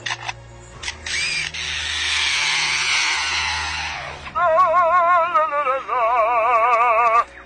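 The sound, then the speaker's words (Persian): An Australian lyrebird mimics sharp camera shutter clicks, then a steady buzzing chainsaw drone, followed by loud, rapidly wavering electronic-like warbles. No one speaks. “یکی مثل همین پرنده استرالیایی باهوش که به این صورت تقلید صدا میکنه، صدای شاتل دوربین عکاسی، اره برقی، خواننده اپرا.”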